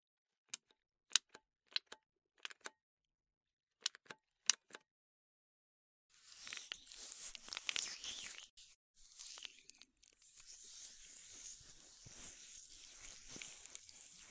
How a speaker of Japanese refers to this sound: では、オイルでマッサージをしながら保湿していきます。同時にマッサージしますね。